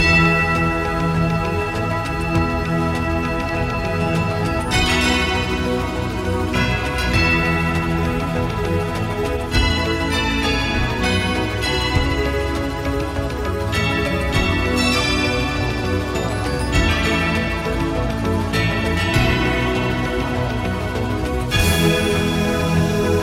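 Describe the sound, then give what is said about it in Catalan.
Tubular bells ring out in a steady sequence of struck, sustained tones, each strike blooming and decaying over a dense, continuous musical backdrop. Loud, with no voices. “I del pessebre vivent a les campanes. And tubular bells.”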